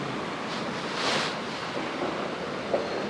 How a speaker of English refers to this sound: There's more running water there, isn't it?